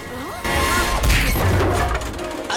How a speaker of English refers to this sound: A sack of flour on a rope knocked Paella down some stairs in the nick of time.